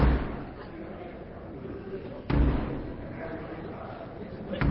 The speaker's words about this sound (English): And then the Queen's messenger knocks on the doors of the House of Commons, summoning members to attend the opening of Parliament.